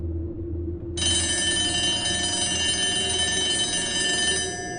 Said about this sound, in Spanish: Lo que sonó fue el teléfono de la oficina.